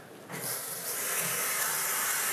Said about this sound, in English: So I'm going to take a cold shower.